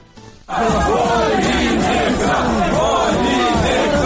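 A crowd of protesters storming the Vinnytsia Regional Council in Ukraine bursts into loud, sustained shouting after a brief quiet moment as they carry a rubbish bin into the building on a Saturday, demanding the regional governor's resignation; the overlapping yells and chants stay dense and intense throughout.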